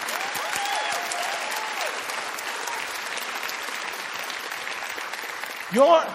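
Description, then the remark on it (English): An audience claps louder, steadily, in a dense, continuous wash of applause, with scattered voices calling out and a brief vocal shout rising just before the end. “Y'all need to clap louder than that.”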